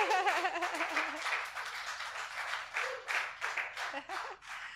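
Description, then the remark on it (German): Audience applause welcoming two guests: a dense, steady wash of overlapping claps that runs for several seconds at moderate loudness, with some cheering voices mixed in near the start. “Yes, gib mal einen Applaus.”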